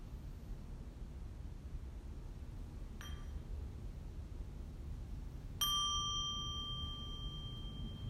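A bell rings out clearly with a long, shimmering sustain as a signal to transition to the next activity, preceded a few seconds earlier by a much softer, brief ding, all over a steady low background hiss with no voices.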